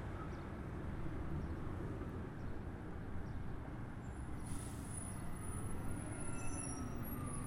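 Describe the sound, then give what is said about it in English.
A city bus rumbles past on a street in Riverside, steady low engine noise with a brief hiss of air brakes, set against continuous street traffic. “That across is a bus.”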